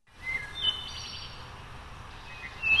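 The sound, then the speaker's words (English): A bird outside a home in Boone County, Missouri, sings a few thin, high whistled chirps, spaced apart, over a steady hiss of background ambience. The calls sound soft, with no voices present. “And that includes the sound of a bird outside a home in Boone County, Missouri.”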